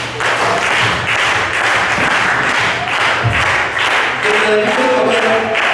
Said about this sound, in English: Now as you're standing up, can we all just clap our hands?